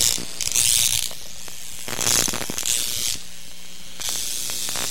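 Harsh electrical crackling from a violet wand comes in four buzzing, hissy bursts, each lasting about half a second or more, with brief quieter gaps of low crackle between them and no voices.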